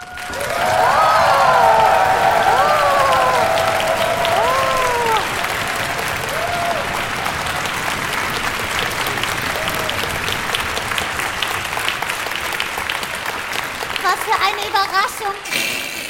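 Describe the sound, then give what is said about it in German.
A large audience at a live concert applauds steadily for the whole stretch, with dense clapping and a few excited shouts and whoops rising above it near the start and again toward the end. “wir waren ganz schön aufgeregt vor dem Konzert, aber wir wurden gleich so nett empfangen vom Publikum, da war alle Aufregung sofort weg.”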